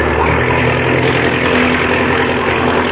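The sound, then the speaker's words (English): A loud, steady aircraft engine roar drones without pause with the throttle open wide, a dense rumbling buzz with a low hum underneath. “Now, open the throttle up wide.”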